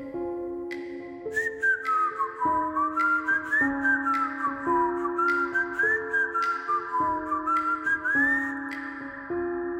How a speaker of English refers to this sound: It was an old-timey whistle, like a... It took me a second. It was like, am I still dreaming? You know, am I really hearing this? I sit up in bed. I look around and I'm definitely awake and I definitely can hear somebody whistling a song.